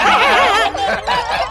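Flipsy's self-built laughing horn lets out a loud, warbling, laugh-like blare in about three wavering bursts, its pitch wobbling up and down like giggling, with no one talking.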